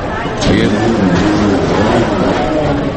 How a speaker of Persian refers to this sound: گوش کنین. نشستم منتظرم که یه هواپیمایی چیز بلند شه بشه اینجا، صدای ترمینال هواپیماییه.